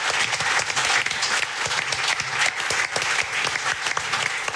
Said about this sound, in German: Alles Gute und vielen Dank für diesen tollen Titel. Applaus für unsere Gästin.